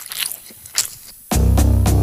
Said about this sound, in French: Et moi ça me dégoûte les bruits de bouche. Ça me dégoûte les gens qui mangent leur chewing-gum avec la bouche grande ouverte.